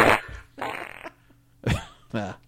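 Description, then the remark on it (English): A quick series of four loud fart sound effects used as a stinger, each a short burst with sputtering, buzzy texture, separated by brief pauses and played alone without talk. “One of my finest stingers.”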